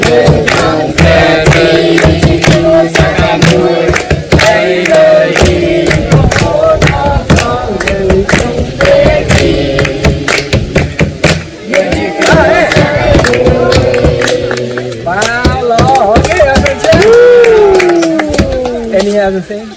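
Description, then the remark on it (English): At a children's Sunday school in the village of Prasatram Do, Cambodia, a group of children sings loudly and energetically in worship, voices rising and falling in pitch. Underneath, an empty gas container, the only instrument and used as their drum, is beaten in a steady, driving rhythm. “Okay, so there were no piano at that time, no YouTube, no guitar, no keyboard, and you are correct, that was a gas container.”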